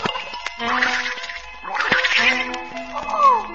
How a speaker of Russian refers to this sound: Кто это? По-моему, так говорит лягушка.